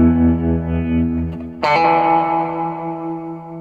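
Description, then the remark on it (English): An electric guitar played through an Earthquaker Devices Ghost Echo reverb pedal, drenched in reverb: a sustained chord hums, then a fresh chord is struck and rings out, its washy tail slowly fading. No one speaks. “So I'm going through that's a Earthquaker Devices Ghost Echo, but I got this weird batch of stuff from Crystal Radio, a handcrafted guitar pedal.”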